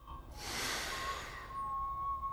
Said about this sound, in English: He bounds past some of the meat-eating plants and stops to sniff at some round, furry berries.